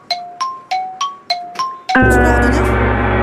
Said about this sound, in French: Trop tard. Il y a le gong, il y a le gong qui est arrivé.